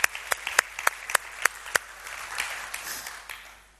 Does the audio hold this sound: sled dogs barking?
no